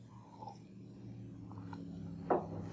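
sip of water

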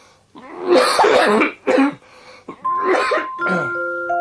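coughing and throat clearing

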